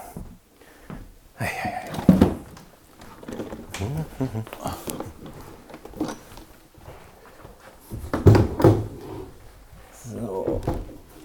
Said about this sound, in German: Und die müssen weg, damit der Maler dann, oder die Malerin, ich weiß gar nicht, unter die Treppe klettern kann und dann da malen. Ja. So, jetzt stehe ich die Schubladen erstmal in den Vorratsraum. Für ein paar Tage. Dann ist da Platz.